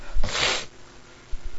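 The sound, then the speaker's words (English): One loud sneeze, caused by flowers, bursts out sharply with a breathy, hissing spray, then fades into quiet, leaving only a couple of soft low thumps afterward. “My God, these flowers are really making me sneeze.”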